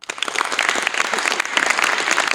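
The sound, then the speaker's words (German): An audience breaks into dense, steady applause, with a few whistles cutting through the clapping, voting for a fire brigade picture. The sound stays loud throughout, with no speech. “Okay, es gab ein paar Pfiffe für die Feuerwehr, also Feuerwehr hat gewonnen, glaube ich.”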